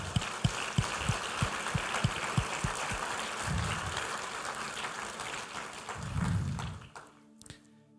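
A crowd applauds Jesus steadily for several seconds, dense clapping with a few rhythmic low thumps at the start, swelling briefly before cutting off abruptly near the end.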